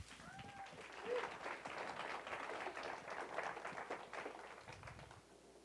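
An audience applauds steadily for several seconds, welcoming a student pastor coming up to speak, a dense wash of many hands clapping together that holds at an even level and thins slightly toward the end.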